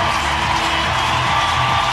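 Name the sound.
hockey arena crowd roaring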